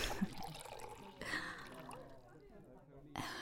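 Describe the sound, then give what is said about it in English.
A short, quiet pour of scotch splashing and trickling into a glass, lasting a few seconds with a soft gurgle and faint background noise around it. “Want a drink? Yeah, scotch.”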